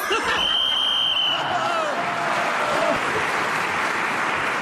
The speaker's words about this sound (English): I hope they're cheering in the audience for that outrageous piffle and not for the content.